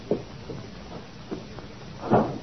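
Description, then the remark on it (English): A few soft, scattered knocks and shuffles lead up to a door swinging shut with a muffled thud near the end, with no voices. “Would you mind the door?”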